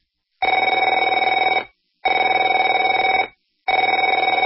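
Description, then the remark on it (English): A telephone rings in three long, evenly spaced bursts, each a loud, rapidly trilling electronic warble lasting over a second, separated by short silences. No one speaks. “Afraid to answer it?”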